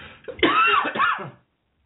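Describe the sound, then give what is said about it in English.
A fairly loud throat clearing with a short cough, one raspy, voiced burst lasting about a second, then silence. No speech is heard. “Excuse me, I'm on the verge of coughing here.”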